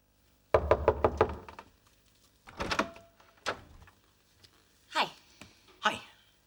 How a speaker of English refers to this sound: Holding a bunch of flowers, he reluctantly knocks on the door.